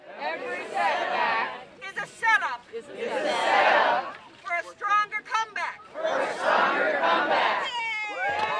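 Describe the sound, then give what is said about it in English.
A crowd of over 200 people gathered in a circle around a large basket in a torrential downpour roars and shouts in three loud, sustained bursts, with a single voice calling out in the gaps between them, energetic. “The following day, in a torrential downpour, over 200 people gather in a circle around the basket.”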